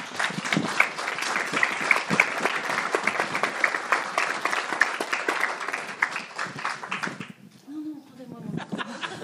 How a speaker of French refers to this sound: on les applaudit si vous voulez bien.